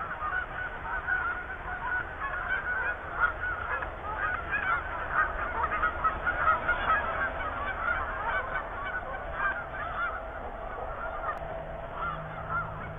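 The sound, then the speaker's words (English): A large flock of geese honks continuously at the edge of a cornfield in spring, dozens of overlapping calls forming a steady chorus with no pauses for the whole stretch. “Spring is here. I think the geese have announced that.”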